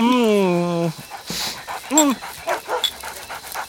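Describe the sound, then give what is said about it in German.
A dog begging for cake whimpers in a long, wavering whine, then gives a shorter whine with breathy panting in between, while a person talks over the later part. “für dich gibt's leider keins. Aber du bekommst nachher leckeres Hundefutter.”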